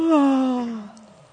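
A single drawn-out voiced yawn, made while waking up and stretching, that slides downward in pitch and fades into a soft breathy exhale after about a second.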